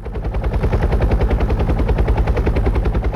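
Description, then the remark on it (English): A helicopter's rotor chops steadily and loudly, a fast, even thudding with a deep rumbling underneath that holds constant throughout, with no voices. “Do you go by helicopter?”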